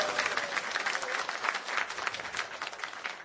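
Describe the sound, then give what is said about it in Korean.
A church audience claps steadily for a few seconds to thank a church member for preparing an event, a dense, even patter of many hands with no voices standing out, at moderate volume. “다시 한번 박수 드리시기 바랍니다.”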